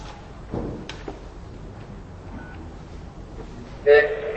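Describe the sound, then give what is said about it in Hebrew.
On a phone line for recording lessons, a short electronic beep sounds midway as the prompt to record a short description of the lesson. Near the end comes a brief, louder burst of telephone keypad tones over a low, murmuring background. “להישמע צפצוף, נא להשמיע תיאור קצר של השיעור, ואחר כך סולמית.”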